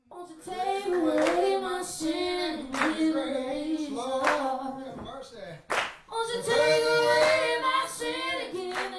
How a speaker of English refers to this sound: belts out a soulful tune while a small crowd claps along.